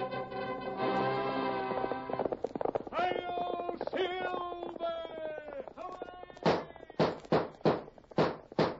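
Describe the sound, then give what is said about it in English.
After a stretch of sustained, sliding tonal sound, a steady run of loud hoofbeats starts up, a rhythmic clip-clop of a horse setting off at a gallop: Silver, the Lone Ranger's horse, in an old-time radio drama. “Horse with the speed of light, a cloud of dust, and a hearty hi-oh, Silver, the Lone Ranger.”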